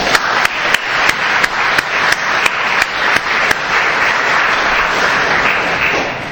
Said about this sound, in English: But can we just have another round of applause for all these people who work so hard here?